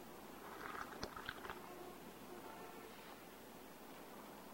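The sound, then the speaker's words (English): Two people sipping tea: quiet sipping and small mouth noises, a short cluster of soft slurps and clicks early on, then just a faint steady hiss. No one speaks. “Both sip their tea.”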